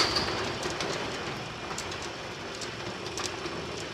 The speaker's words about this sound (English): And then open up the big roller shutter doors where the tractors are stored, ready for another busy day on the farm. Here we go.